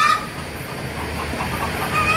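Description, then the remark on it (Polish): A hen cackles repeatedly after laying an egg, heard through an opened soundproof door, her excited clucks faint against a steady rumbling background noise. “słyszałeś kurę?”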